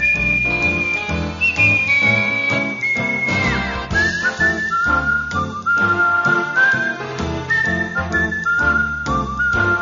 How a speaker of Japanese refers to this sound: クリエイターの皆様に大好評、生演奏の口笛。